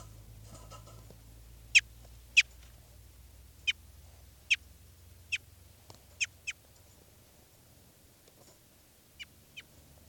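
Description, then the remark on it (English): A crossbill, bird 399, being handled at 11:36 a.m. on June 4th, gives about ten sharp, high chip calls at irregular intervals, some in quick pairs, over a low steady rumble with no talking. “And now I'm going to be handling bird 399.”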